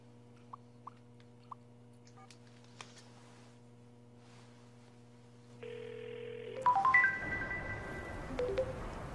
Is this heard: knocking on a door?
no